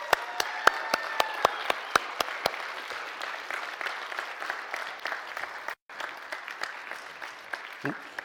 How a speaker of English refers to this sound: Let's give them a mighty round of applause.